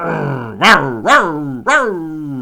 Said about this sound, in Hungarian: A telkeket magas kerítésekkel vették körbe az építők. Amikor Dini közelebb ment, a kutyák alkalmi kórusa rázendített.